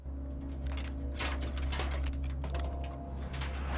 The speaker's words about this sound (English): Nikki goes to the garage and undoes the padlock.